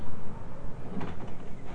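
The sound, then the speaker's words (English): A front door is pushed open with a soft scraping creak and a dull knock around the middle, over a low rumbling background. It is fairly quiet, and nobody speaks. “You went to the front door and you opened it and you closed it.”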